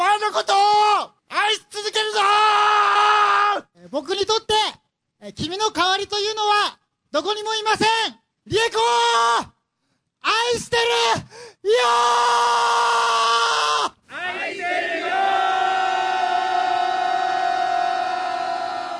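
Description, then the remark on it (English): Men in Japan scream loudly on Love Your Wife Day, January 31st, to celebrate loving their wives, in a series of short, strained bursts separated by brief pauses, then let out a long, sustained yell at the end. The voices are raw, with no ordinary talk. “Men just start screaming. Screaming. To celebrate that they love their wife.”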